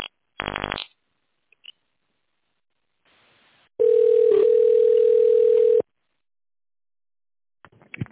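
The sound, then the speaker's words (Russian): A telephone ringback tone sounds once as a steady, fairly loud two-second beep while a call is placed, preceded by a short buzzy burst and faint line noise, with no talking. “звонит.”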